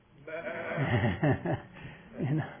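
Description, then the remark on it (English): Several voices imitate sheep, letting out wavering, quavering bleats together in a few loud bursts over about two seconds, with a brief pause in between. “But he calls himself the Good Shepherd, and by that he lets us know that we're the sheep, right? Say bye.”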